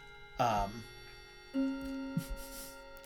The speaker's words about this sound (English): the grandfather clock just went off.